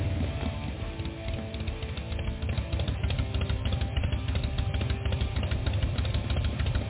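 A Panhead motorcycle engine idles in a steady, loping rhythm, with a constant dry clutch rattle ticking over the low rumble. Fairly loud throughout, with no voices.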